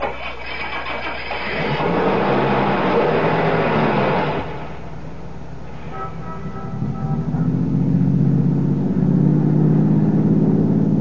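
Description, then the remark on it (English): A car engine cranks over with a rough, noisy rattle, then settles and revs up into a steady, rising low hum that stays loud until the end. “Start your car, head west of the highway, and keep going till I tell you to stop.”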